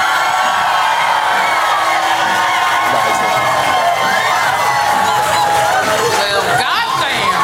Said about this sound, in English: please applaud now.